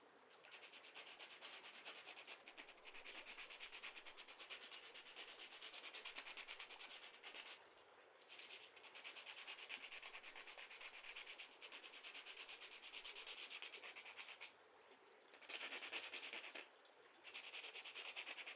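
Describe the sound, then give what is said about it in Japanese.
Steady rasping of an emery board filing and buffing a nail, working from coarse to fine grit, a continuous scratchy rubbing with brief pauses and slight shifts in pressure, with no talking. “あとはエメリーボードで粗い目から細かい目の順番に磨きます。”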